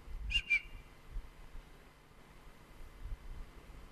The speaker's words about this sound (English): That's a bird.